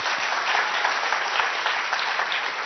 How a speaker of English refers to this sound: Round of applause.